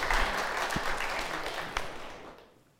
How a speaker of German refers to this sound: Herzlichen Glückwunsch! Ja, finde ich einen Applaus wert.